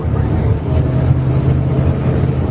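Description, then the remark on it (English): A steady, loud rumble of military Humvee and truck engines, a thick low growl with no pauses and no voices over it, as Humvees follow about 100 Iraqi soldiers in 17 trucks to a neighborhood in Ghazaliya, a mostly Sunni area. “The team's Humvees follow about 100 Iraqi soldiers in 17 trucks to a neighborhood in a mostly Sunni area called Ghazaliya.”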